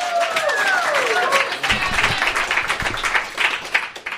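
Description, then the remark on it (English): An audience bursts into steady applause with scattered cheers for the last poem of a poetry performance, and a couple of sharp rising whistles ring out at the start before the clapping carries on loudly throughout. “Make some noise for the last poem.”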